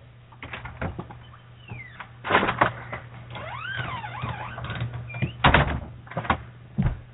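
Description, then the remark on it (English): A door creaks open with squeaky, swooping hinge sounds, then bangs and clunks shut several times, loud, over a low steady hum. “Is my door that loud? Yes, it's very loud. We could hear it.”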